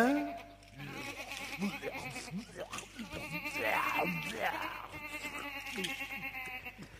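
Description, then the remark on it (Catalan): A lamb bleats several times in a row, its wavering, nasal cries rising and falling over a steady low background hum. “Un dia una vaca, un altre dia un porc, un altre dia un xai.”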